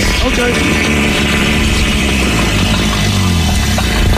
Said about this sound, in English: And for no reason other than I think that he'd enjoy it, here's a rhino fart.